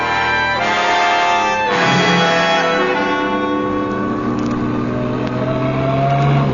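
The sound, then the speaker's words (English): A police flying squad car engine revs loudly and drives on, its droning pitch rising and shifting over several seconds, continuous with no voices. “Flying squad cars will stop all”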